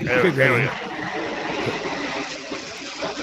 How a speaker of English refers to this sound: Is that a plane? Yeah, well, it is. Sorry about that. That's all right. Here we go. I'll try and squeeze my humming in between takeoffs.